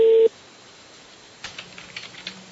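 A short, loud, steady telephone tone from a call to a Hyundai spare-parts seller cuts off abruptly, followed by a pause and then a run of soft, quick clicks over a faint low hum, with no talking.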